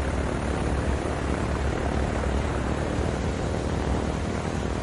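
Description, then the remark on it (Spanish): A dense, steady roar of German propeller warplanes, Messerschmitt fighters and Stuka dive bombers sent by Göring against France, droning overhead, loud and continuous for the whole stretch with no letup and no voices. “...500 cazas Messerschmitt y un gran número de bombarderos en picado, los Stukas.”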